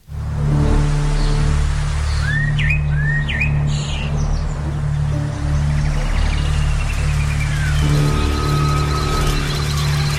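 Small birds chirp in quick upward-sweeping calls over a dense, constant droning hum and hiss of rainforest ambience. No one speaks.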